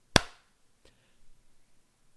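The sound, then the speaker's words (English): A single sharp hand clap, made to sync the audio of a recording, rings out at the start, followed by a fainter second snap and then low, quiet rustling. “Let me clap so I can get this.”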